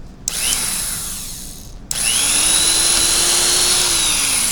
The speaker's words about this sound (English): All right. Got me a drill. Let's drill a hole.